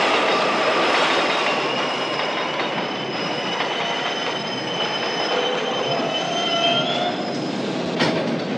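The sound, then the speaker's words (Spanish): A subway train comes out of a tunnel, rumbles into an elevated station and brakes, its wheels letting out sustained high-pitched squeals over a loud, steady roar, with a sharp screech near the end as it comes to a stop. “Finalmente, la gran serpiente plateada sale del túnel y se detiene en una de las clásicas estaciones elevadas.”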